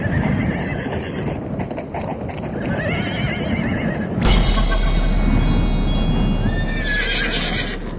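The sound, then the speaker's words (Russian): Horses neigh loudly and repeatedly over a busy, steady clatter of hooves clopping. The sound turns brighter and louder midway, when high, drawn-out whinnies rise above the trotting. “Лошадки, ну хороший, ну миленький, ну пожалуйста, ну еще немного, еще чуть-чуть.”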